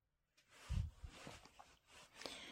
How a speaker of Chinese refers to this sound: 你真的来了，你站在那扇门前，我听见了，我听见了你迟疑的脚步，你出众的呼吸。